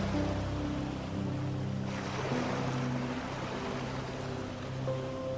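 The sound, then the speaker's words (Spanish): Gentle sea waves come and go on the shore of a tropical sandy beach in a continuous soft rushing, with a broader swell midway, underlaid by a low sustained tonal drone like soft music. “La arena suave se extiende por toda una playa tropical, juntándose con las olas del mar que van y vienen en la orilla.”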